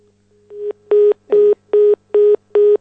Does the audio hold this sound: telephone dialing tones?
yes